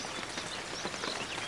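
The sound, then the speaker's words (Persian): Soft, steady patter of light rain, a dense hiss of tiny drops falling continuously at low volume, with no voices. “باران نم نم بارید”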